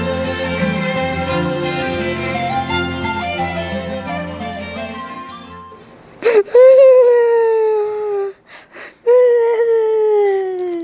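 After a stretch of layered music fades out, a child bursts into loud wailing cries, long drawn-out sobs that dip in pitch, briefly break off with short gasps, then resume.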